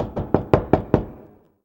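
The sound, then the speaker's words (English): Five quick knocks on a wooden door, fairly loud, in an even, slightly accelerating rhythm, with a short resonant tail fading after the last rap. No voices. “Then there was a knock on the door.”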